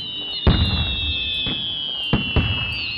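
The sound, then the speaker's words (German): Several sharp New Year's Eve firework bangs burst out at uneven intervals, one loud blast followed by a few more pops, over a steady high whistling tone and a dull background rumble. “wenn die Sektkorken geknallt haben und das Silvesterfeuerwerk verloschen ist”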